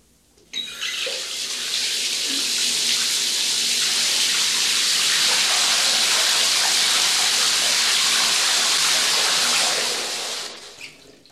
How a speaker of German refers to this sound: ich lasse jetzt das Wasser ein, wenn Sie mich höflich darum bitten.